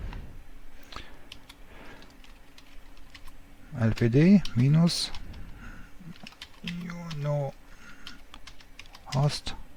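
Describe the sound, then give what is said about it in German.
Crisp keyboard typing as a domain name is entered on a computer during a software setup: a steady run of quick, irregular key clicks throughout, with brief bursts of a person speaking partway through and near the end. “Hier schreiben wir nun die Domain rein, die wir vorhin schon in unserer etc-host eingetragen haben.”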